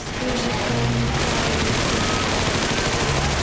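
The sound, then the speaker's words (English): A loud, sustained rattle of staged machine gun fire on a stage show, as female dancers in trilbies and suits pretend to fire machine guns at an old-fashioned car rotating in dry ice; rapid bursts blur into a continuous crackling roar that holds steady for a few seconds with no voices. “One cocks a gun beneath the tablecloth as the car rotates in dry ice. The girls on stage pretend to fire at it.”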